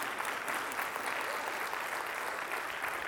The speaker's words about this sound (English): That was a very shammy shake. All right, let's clap like we believe it, all right?